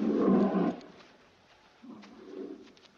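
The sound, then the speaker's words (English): A dog growls on the moors in two low, rumbling bursts, the first loud and lasting under a second, the second softer and longer after a short pause. No one speaks. “You think it's a dog?”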